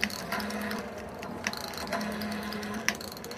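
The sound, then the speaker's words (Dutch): A coin goes into a payphone in a phone booth: a few sharp metallic clicks and a rattling, ratchet-like mechanism over a steady low hum, with no voices. “Werpt zo'n muntje in.”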